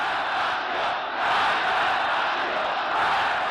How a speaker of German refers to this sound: Dort wird er als gottgleiche Figur empfangen. Millionen Menschen jubeln in den Straßen, sie sitzen auf Bäumen und Autos